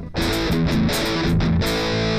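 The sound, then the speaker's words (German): A loud, fuzzy distorted electric guitar plays a short chunky rhythm riff through an amp, with choppy chord stabs and brief gaps, dense and saturated throughout, the distortion old-style and fuzz-like yet Rectifier-like. “Oh, das macht diese sehr fassige Verzerrung, die es damals halt gab.”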